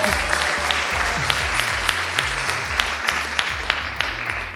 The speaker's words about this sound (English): A big welcome to everyone in the audience. We're so excited to be in Miami at the Miami Book Fair for the first live episode of the Fiction Nonfiction Podcast with... You can applaud for that so we can hear you.